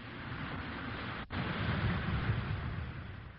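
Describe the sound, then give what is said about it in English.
A steady, crackling hiss of an Alka-Seltzer tablet fizzing in water, dense and even throughout, broken only by a split-second dip early on. No voices. “Listen to it fizz.”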